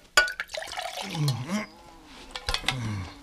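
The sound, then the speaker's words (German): Water splashes and gurgles as it is poured into a glass for someone to drink, with a couple of sharp clinks and bubbling swirls; moderately loud, no one speaking. “Also, hier ist das Wasser. Trinken Sie.”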